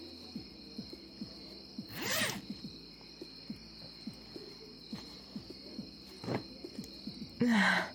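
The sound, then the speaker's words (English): A zipper at the back of a dress rasps open in a few short bursts, a longer pull early on and two quicker ones near the end, against a quiet background hum. “Take off my dress. The zipper's in the back.”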